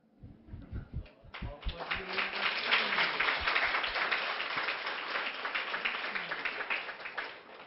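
An audience breaks into applause after a few loud, separate claps, building to steady, dense clapping that holds until the end, with faint voices and cheers mixed in underneath.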